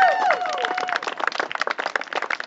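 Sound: clapping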